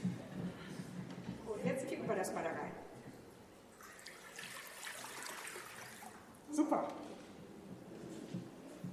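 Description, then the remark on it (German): Water is poured into a basin for a baptism with a steady, moderately loud splashing trickle lasting several seconds, while indistinct voices murmur briefly at the start and again near the end. “das Erste, was wir jetzt machen, ist erstmal Wasser hier reinkippen.”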